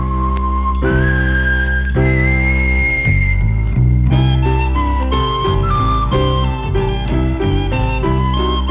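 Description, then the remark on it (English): A person whistles a bright, sustained melody over a full instrumental backing in a radio commercial for INA insurance, holding long notes before moving into a quicker run of tune. It's loud, with no talking. “For any kind of personal or business insurance you need, just whistle.”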